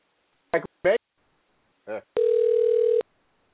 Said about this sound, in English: Phone's ringing.